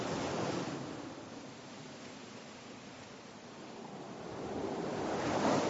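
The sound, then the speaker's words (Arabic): Sea waves wash onto a shore in a steady, hissing roar, swelling at the start, easing in the middle, then building again at the end. No voices are heard. “أعطني العصا بالله خلني أرسم لكم بس إن شاء الله البحر ما يخرب رسمتنا.”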